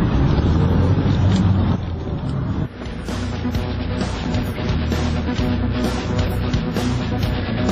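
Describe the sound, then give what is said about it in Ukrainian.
Steady low engine rumble and road noise from inside a moving taxi on a highway, heading toward Korostyshiv and Zhytomyr, a continuous dense drone with faint rattles and shifts, no talking. “Спочатку ми думали, що не зможемо домовитись про безкоштовний проїзд, але нам пощастило, і от ми вже в дорозі.”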